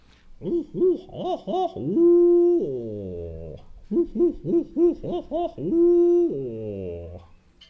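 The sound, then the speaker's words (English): Owls hoot in two matching calls, one after another, along a riverbank in the St. Johns and Ocklawaha River swamps: a quick rhythmic run of deep hoots ending in a long, drawn-out note that slides downward, loud with no talking. “John's River and the Ocklawaha River swamps, it seemed like the owls had a network of communication going on back and forth along the riverbank.”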